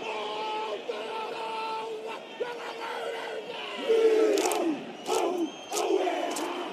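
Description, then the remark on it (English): A huge crowd at Murrayfield stadium roars and jeers over a haka, a rhythmic chanted war dance before a rugby match, with whistles and shouts swelling louder in bursts toward the end. “Here is the Murrayfield crowd jeering it.”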